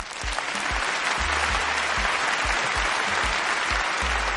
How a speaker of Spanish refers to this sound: Del otro lado está, me vuelvo a parar, el doctor Hernán Navascués. Aplausos.